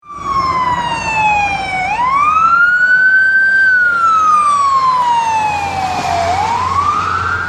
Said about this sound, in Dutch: Ja, dit heeft iedereen denk ik wel eens gehoord. Er komt een auto met een sirene op je af. Nou ja, die sirene maakt één bepaald soort geluid. Maar doordat die op je afkomt, verandert het geluid.